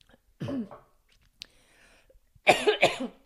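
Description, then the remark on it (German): A person clears their throat with a short rough rasp, then after a quiet pause coughs twice in quick, loud bursts. No talking, only a faint soft click in between. “Muss ich gleich mal husten bei so einem tiefen Thema.”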